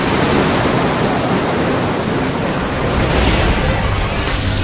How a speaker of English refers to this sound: The waves here act like forest fires, sweeping through the reef, clearing away old growth. Dead and dying coral is removed, and space is made for new life to take hold.